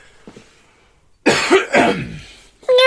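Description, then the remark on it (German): After a quiet moment, a loud throat-clearing cough rasps out, followed by a short pause and then a high, nasal meow-like noise made by a human voice. “Muss man beim Räuspern erst husten und miauen hinterher?”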